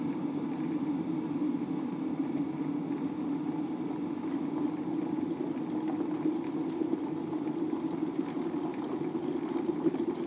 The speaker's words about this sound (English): So, the kettle is almost done. Hopefully.